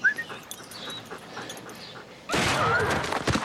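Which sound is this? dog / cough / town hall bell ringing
dog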